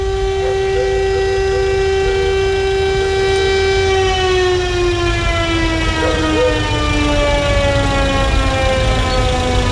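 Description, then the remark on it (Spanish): A police escort siren wails loudly and continuously, holding a long steady tone that slowly slides lower in pitch, over a low rumbling background with no one speaking, as a hearse leaves the Servicio Médico Legal on Avenida Ramón Picarte in Valdivia, escorted by uniformed police toward La Araucanía. “Ya está en el exterior del servicio médico legal la carroza fúnebre. Escuchamos la sirena.”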